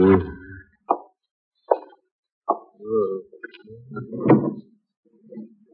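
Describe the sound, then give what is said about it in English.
A few sharp wooden clunks and knocks as the top right drawer of a bureau is pulled open, followed by a couple of seconds of rummaging and rattling of items inside while looking for a claim check, with no talking. “Look in the top right drawer of the bureau.”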